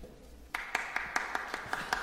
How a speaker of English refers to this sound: Yeah. That's just Max. That's just Max. The sound of one pair of hands clapping.